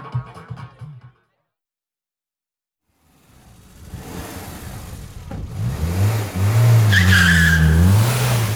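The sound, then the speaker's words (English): A car engine revs up and tyres squeal loudly as the car shoots into the road and speeds away very fast, the screech rising and wavering over a roaring motor, intense after a brief silence. “The tyres squealed and the car shot into the road.”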